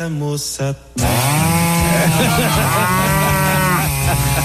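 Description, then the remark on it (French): A cow moos loudly and at length over the continuous harsh roar of a chainsaw in a Brazilian slaughterhouse, after a brief lower-level moment at the start. No speech. “J'ai réussi à me procurer un enregistrement d'un abattoir brésilien.”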